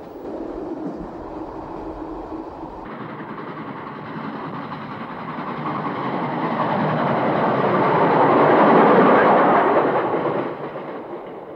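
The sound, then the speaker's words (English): A train rolls along the rails with a steady, broad rumble that swells louder toward the end before easing off slightly. No one speaks. “In early June 1937, they pretend to be tourists, got to Taiyuan from Beijing, went southward to Xi'an by train, and finally arrived in Yan'an.”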